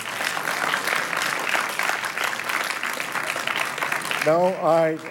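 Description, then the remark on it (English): Steady applause from members of the public fills a council chamber for several seconds during a council debate, a dense wash of clapping that fades as a voice begins speaking near the end. “To members of the public that are here, as you know, there is no applause, no expression of your like or dislike as to the dialogue that is taking place.”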